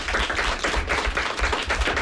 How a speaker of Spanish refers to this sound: Gracias, Ramón, por ese efecto de sonido que acaba de meter con esos aplausos que parecen realmente de manos de unos niños y niñas de apenas 4 o 5 años, ¿verdad?